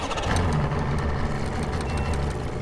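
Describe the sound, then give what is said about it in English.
A boat engine idles steadily, a low rumbling drone with a faint rhythmic knock, continuous and fairly loud with no voices, during a boat trip up the Duwamish River in Seattle. “To see how salmon really might survive in a highly industrialized environment, I strap on mud boots for a boat trip up Seattle's biggest river, the Duwamish.”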